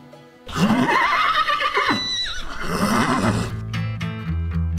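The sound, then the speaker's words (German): A horse being ridden at a canter lets out a loud, drawn-out whinny, rising and falling over a few seconds, followed by breathy snorting and low rumbling sounds. “Guck mal, kommt er gleich zum Abschnauben, ne?”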